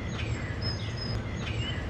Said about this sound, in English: I'll show you what birds sound like on my porch. It rained last night, so they're extra happy.